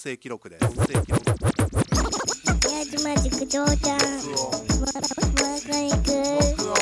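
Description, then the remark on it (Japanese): DJ scratching on vinyl records at Miyajima Juku on its Thursday off day, recorded to be aired on FM radio: a rapid string of back-and-forth swipes sweeping up and down in pitch, then more rhythmic scratches over a steady tonal backing, fairly loud throughout. “この録音は宮島塾の休日木曜日を使ってレコードをこするという行為にハマってしまった人たちのスクラッチを FM ラジオでオンエアさせようというのを目的にした音声記録です。”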